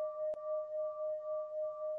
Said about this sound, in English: And so we allow the sound of that bell to assist us in just slowing down and becoming present.